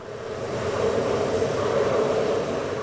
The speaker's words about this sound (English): Steam shoots from a crack in the earth with a thunderous roar like a jet engine. Steam is visible from miles away as it billows into the sky over Kawakamojang, Indonesia's first geothermal field in West Java.